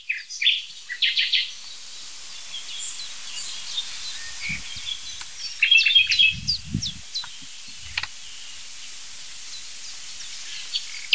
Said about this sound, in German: Nachtigall.